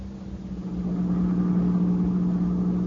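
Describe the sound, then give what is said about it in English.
A car engine runs at a steady idle, a continuous low droning hum with a faint mechanical rumble and no voices, holding even throughout. “to get out for a while and sit back in a swell car and relax.”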